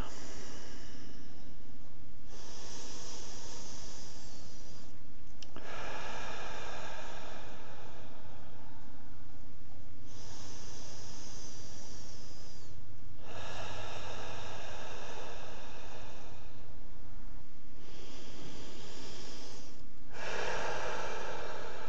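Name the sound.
deep breathing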